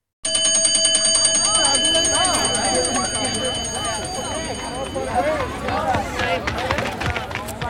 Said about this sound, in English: It was 4 o'clock on Friday afternoon. The bell rang, and the students in Class 5 started running out of the classroom.